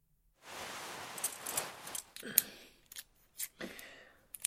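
Quiet metallic clicks and scraping of a key working the lock of metal handcuffs to take them off, with a sustained rasp early on followed by several sharp separate clicks and a rattle near the end. No voices.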